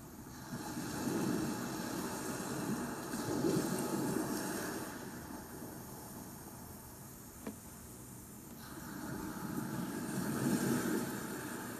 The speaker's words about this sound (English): And as the water continues to hit the shore in front of you, know that you have arrived home at last.